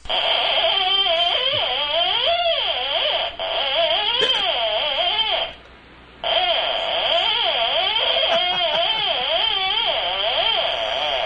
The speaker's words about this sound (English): And here's a little bit of what it sounds like when a cat plays a musical instrument.